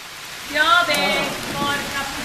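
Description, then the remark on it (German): Steady rain hisses outdoors in a continuous wash on an open-air theatre stage in Islikon, with a faint, indistinct murmur of voices rising briefly through it in the middle and again near the end. “Pünktlich zur Ankunft auf unserer Freilichtbühne regnet es.”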